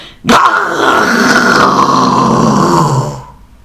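A huge bear lets out one long, loud, rough growl that starts abruptly and rumbles on for about three seconds before trailing off, with no voices.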